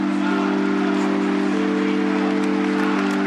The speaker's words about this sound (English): Applause from some of the 50,000 mourners as Pope Benedict's coffin is carried into St. Peter's Square.